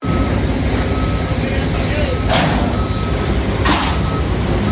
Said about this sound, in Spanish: A esta hora son miles de coches los que circulan por la A5 y sortean como pueden todas las obras que ocupan ahora mismo el Paseo de Extremadura.